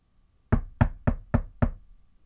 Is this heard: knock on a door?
yes